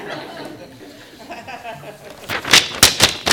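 A hand slaps a sheet of paper several times in quick, uneven succession, sharp papery smacks that are fairly loud after a quiet, murmuring stretch.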